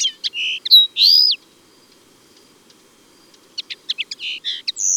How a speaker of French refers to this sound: Un gazouillis au timbre aigrelet et parfois même un peu grinçant, en strophe de longueur variable.